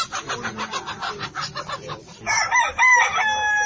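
Poultry cries at a market where men and women crowd to shop for the Ramadan festival: a run of rapid, pulsing clucks gives way to loud, drawn-out rooster crows with bright, wavering tones, several birds overlapping amid a busy background din.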